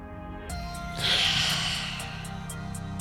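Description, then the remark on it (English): A pug named Jeffrey snores and snorts with a rough, breathy rasp. One louder hissing snort swells near the start, then softer wheezy breathing continues over a steady background hum. “You, me, and the microphone, and the airwaves, and Jeffrey snoring.”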